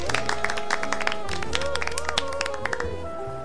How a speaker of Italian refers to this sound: I presenti applaudono.